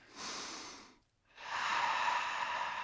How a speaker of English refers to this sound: And then we sniff the air around us and become aware of our environment.